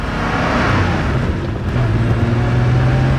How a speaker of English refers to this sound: Oh my God. And it's just pure sports car. Air-cooled, making all kinds of weird noises. So unrefined, but super refined at the same time.